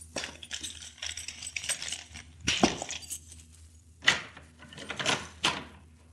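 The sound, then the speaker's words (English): Keys jingle and clink, followed by a few sharp metallic clacks and rattles as the lock of a locked door is worked with the keys. The sounds are moderately loud and irregular, with no talking. “I have keys that may unlock it.”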